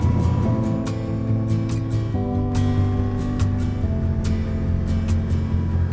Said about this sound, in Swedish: Vägen blir smalare och krokigare medan bilen kör upp och ner för småbranta backar.